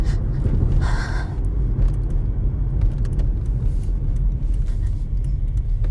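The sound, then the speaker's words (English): A deep, steady road rumble of a truck running alongside a car, loud and continuous for the whole stretch, with a brief breathy hiss near the start and no talking. “There's a truck next to me.”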